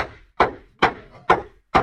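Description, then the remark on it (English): Heavy pounding on a wooden door, five loud thuds in a steady rhythm about half a second apart, with no voices over them. “They even beat at the door.”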